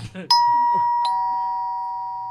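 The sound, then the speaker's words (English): A doorbell rings on Halloween with a bright two-note chime, each tone struck about a second apart and left to ring out slowly. A brief voice murmurs just before it. “Hey, could you get that?”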